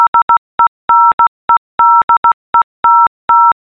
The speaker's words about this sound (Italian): questo è il mio nome in codice Morse.